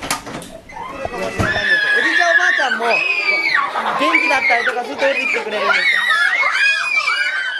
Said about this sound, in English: You walk into the room and you are bombarded by these little bodies screaming and flying around, and the vitality, man, is just over the top, and it's infectious.